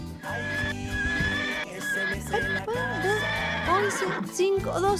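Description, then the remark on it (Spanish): A person imitates a horse's whinny, a loud, quavering neigh with wobbling pitch that rises and falls repeatedly for several seconds over a low, steady background hum. “¿En serio que sabes imitar un caballo?”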